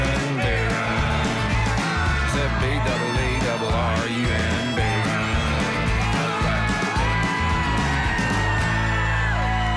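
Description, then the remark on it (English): A group of people yells and whoops loudly over the close of a live band number played in a studio, the raucous shouting sustained nearly throughout and mixed with the music. “the end, all the yelling.”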